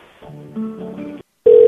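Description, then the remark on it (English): A quick run of telephone dialing tones, stepping through several pitches, then a brief pause and a loud, steady ringing tone on the line. No one speaks. “I want to get that lady on the phone again.”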